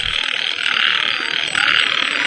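A dense, continuous chorus of frogs croaking and trilling together, loud and steady throughout with no pauses, like a pond full of calling frogs. No one speaks.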